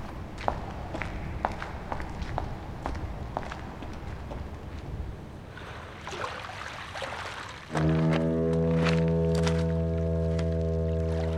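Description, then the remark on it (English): Steady footsteps walk at an even pace down toward a deserted pier at night in fog for several seconds, then a deep, loud foghorn blares and drowns everything out with a sustained low drone. “Then we get moving again.”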